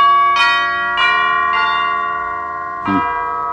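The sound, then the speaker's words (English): A doorbell chime at the door of a large mansion rings out four clear, resonant tones, three evenly spaced and then a final one after a short pause, each note lingering and overlapping the last with no voices. “Ring the bell, will you?”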